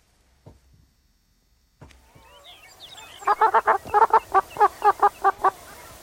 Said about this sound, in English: Where now the ecologist Mike Dilger celebrates the long-tailed duck in Tweet of the Day.